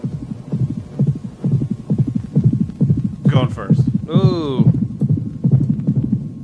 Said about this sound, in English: I think it was supposed to be like your heart beating and then it's stopping, but it sounds like a fucking horse